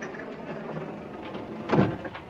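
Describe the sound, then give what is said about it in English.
An elevator door slides shut in a film scene with Shirley MacLaine as the elevator operator Fan Kubelik. A steady, muffled rumble builds to a brief, louder thud as the door closes, with no one speaking. “Watch the door, please. Blasting off.”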